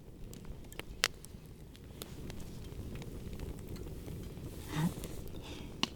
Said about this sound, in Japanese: 皆さん聞こえますか？焚き火の音ですね。 いいですね、 この焚き火の音っていいよね。 いや本当に焚き火ってずっと見てられますよね、もう音だけでもこれだけ心を癒されますよね。